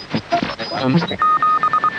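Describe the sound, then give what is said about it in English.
Crackly shortwave radio noise with garbled, voice-like hiss gives way to Morse code: a steady high-pitched tone keyed on and off in a quick run of short and longer beeps. “A little snippet of the distinctive sound we all know as Morse code.”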